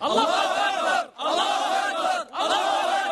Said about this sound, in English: He raises his weapon and joins the cheering.